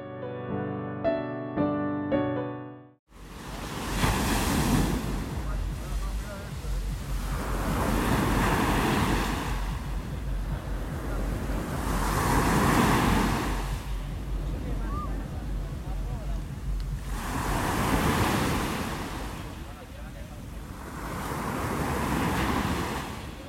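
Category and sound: nature, mediterranean Sea waves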